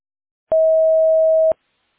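A single steady electronic beep, clean and loud, holding one pitch for about a second before cutting off, the kind of tone that signals recording has begun on a voicemail line.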